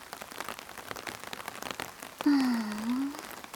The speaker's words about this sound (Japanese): 雨なかなか止まないね。